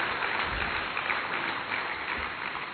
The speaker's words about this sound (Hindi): और इस खेती के द्वारा कैसे हम अपने जीवन को उपजाऊ बनाएं, वह कला आपसे जो आपके द्वारा सीखने को मिली है, हम आपका तहे दिल से तालियों से धन्यवाद करते हैं।